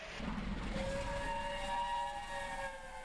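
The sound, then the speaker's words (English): A steam locomotive whistle on the final steam passenger train service in Britain, a round trip from Liverpool to Carlisle, blows one long, steady note with a rich, chord-like tone, loud over a low mechanical rumble, with no one speaking. “In August 68, the final steam passenger train service runs in Britain as several steam locomotives make the round-trip journey from Liverpool to Carlisle.”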